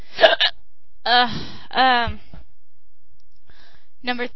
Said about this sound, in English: Talk about hiccups, how you got them, if they were hard or light, if anyone commented on them, and what did they say?